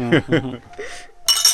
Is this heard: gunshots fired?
no